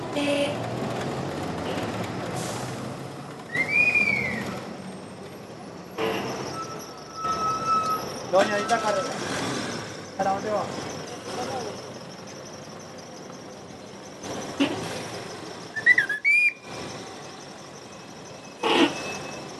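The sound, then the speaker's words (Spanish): A busy street soundscape where cars and buses of the Zamora, Santa Cruz, Andalucía and Copacabana routes pass by, with a steady traffic rumble, vehicles passing at intervals, a few sharp squeals like brakes, and occasional indistinct voices in the background. “Un carro hila, otro va. Los buses de Zamora, Santa Cruz, Andalucía y Copacabana pasan por acá.”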